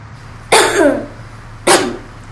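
Two sharp coughs, the first longer and raspier with a rough tail, the second shorter, close and fairly loud with a low steady hum underneath.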